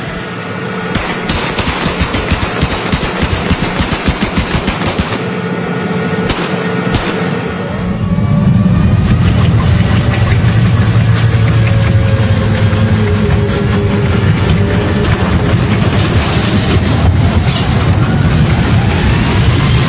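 Heavy metal crunches and sharp cracking bursts as a US Army tank crushes a car taken from Iraqis caught stealing wood, followed by the loud, steady rumble of the large tracked engine grinding, with no voices.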